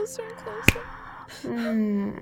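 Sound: finger snap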